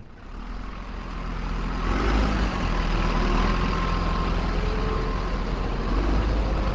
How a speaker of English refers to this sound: dump trucks rumble up and down West Street along the length of Ground Zero, still bearing loads of debris.